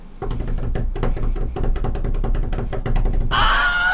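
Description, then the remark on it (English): A rapid series of heavy thuds and knocks, then the Wilhelm scream, a sound effect used in Hollywood films: a sudden short, high-pitched male scream that wavers and cuts off at the very end. “will you hear the actual Wilhelm scream?”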